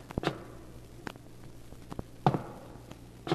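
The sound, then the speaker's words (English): Uneven, limping footsteps thud softly on a floor overhead in a tower at night, about six muffled steps in a halting rhythm over a low steady hum, with no one speaking. “Then one night I heard footsteps above me in the tower.”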